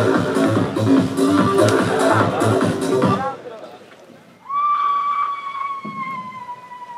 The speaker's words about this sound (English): And then there was a moment of silence, and someone in the crowd wailed. This is what it sounded like.